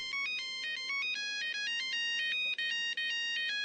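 A rapid sequence of bright electronic phone tones hops between pitches as someone dials a telephone number, playing loud with no voices for a few seconds.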